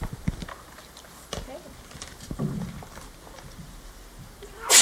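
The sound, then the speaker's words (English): A sudden, loud sneeze bursts out at the very end after several seconds of quiet room noise with faint shuffling and a few soft knocks, at City Hall during a prize drawing. “Bless you.”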